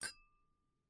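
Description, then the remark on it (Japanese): A single bright clink of glasses of carbonated juice touching in a toast, crisp, with a thin ringing tone that lingers and fades over a second. No voices. “乾杯しようか。炭酸ジュースだけど。乾杯。”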